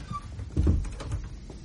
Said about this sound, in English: Close the door.